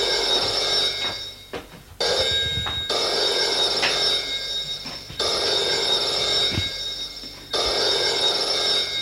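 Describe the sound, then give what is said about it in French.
A telephone bell rings in repeated long bursts separated by short pauses, loud, with a steady electric jangle and no voices. “Entre et va vers le téléphone.”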